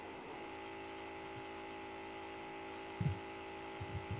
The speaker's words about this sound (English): What? It sounds like a water pump. It does kind of sound like a water pump. Like, it's just kind of there.